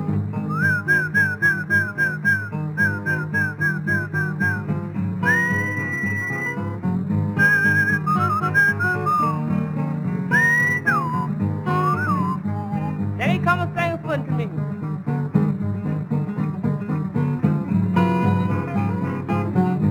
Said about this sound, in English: Give a whistle when you want your horse to come to you. Something kind of like this.